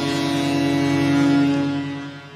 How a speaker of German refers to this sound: Ist Marvin Ducksch, der das erste Heimspieltor der Saison für den SV Werder Bremen erzielt hat. Es brauchte ein bisschen Anlauf. Die Menschen haben sich Sorgen gemacht, ob das Nebelhorn noch funktioniert. Eben jenes.